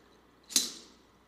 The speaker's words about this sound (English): He got his staff and he banged it on the floor as he walked.